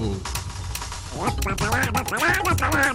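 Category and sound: sound effect, video game duck quacking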